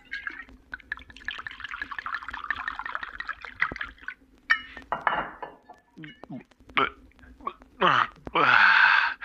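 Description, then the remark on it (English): Water trickles steadily into a glass for a few seconds, followed by a clink of glassware and several short gulping sounds as someone drinks. “Maybe I just need a glass of water.”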